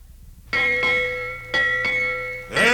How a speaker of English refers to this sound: 8 bells there, bellboy. Do you hear? Strike the bell 8.